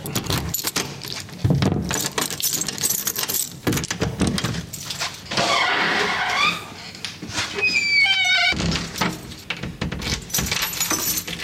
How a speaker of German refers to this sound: dann können wir diese Seite verschließen und auf dem Rückweg verschließen wir die Tür. Das knarrt ein bisschen, das gehört so.